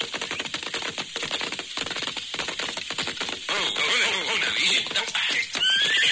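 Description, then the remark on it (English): Hooves of thirsty horses clop in a quick, steady rhythm, then a horse lets out a loud, wavering whinny that carries through to the end, with more neighing rising over the hoofbeats. “Oh, yeah, horses are thirsty.”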